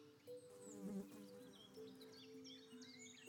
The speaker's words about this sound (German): Ab und zu surrt eine Fliege an dir vorbei.